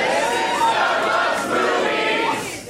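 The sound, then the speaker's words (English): A festival comedy crowd at Esther's Follies, part of South by Southwest comedy in Austin, Texas, on Saturday, March 11, 2017, cheers and yells loudly and steadily for a few seconds. Whoops and shouting voices rise above the dense roar before it begins to fade at the end. “That was pretty good for a festival crowd.”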